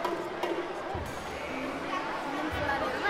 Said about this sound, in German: So klingt die Berliner Philharmonie, wenn die unteren Ränge komplett von Schülern eingenommen werden. Die Jüngsten sind 6, die Ältesten 13 Jahre alt. Fröhlich schnattern die Kinder